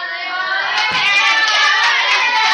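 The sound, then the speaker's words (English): An audience cheers and shrieks loudly and steadily, many voices high-pitched, with a lone clap or two popping out early on amid the din, after parents in the audience are asked to clap. “Any parents? Clap it the up.”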